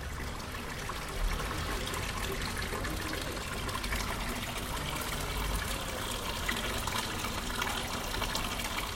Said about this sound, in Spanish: Los autores de la propuesta han grabado un total de 53 sonidos característicos de este barrio del Albaicín: el correr del agua por sus fuentes y pilares